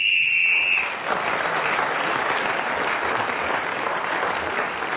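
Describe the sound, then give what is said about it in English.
A single shrill, high-pitched whistle blast from the messenger signals that time is up, sounding for under a second, then gives way to steady, loud applause that continues to the end. “Well, our final whistle from our messenger tells us that we have no more time.”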